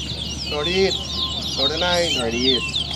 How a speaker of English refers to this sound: These birds, as soon as they see each other, they begin singing to defend their territory. They're male birds. The song is very sweet, but the birds are actually being quite fierce and saying, "Get out of my face, this is my spot."